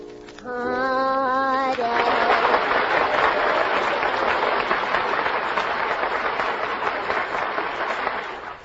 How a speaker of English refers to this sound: Now, as I put my hand over each contestant's head, the studio audience will applaud, indicating their favorites. First, I have my hand over the Furpo system.